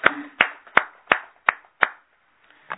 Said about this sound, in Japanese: 今日は教主金光様、金光博道先生が満59歳を迎えられましたので盛大な拍手でお祝いしています。